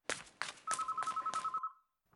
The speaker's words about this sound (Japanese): 電話。